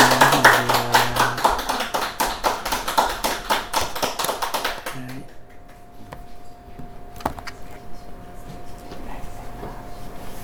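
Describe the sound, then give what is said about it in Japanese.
Audience applause of thanks to God after a prayer fills the first five seconds, dense and fairly loud, then fades to quieter scattered faint taps and low background hum. “感謝の拍手をいたしましょう”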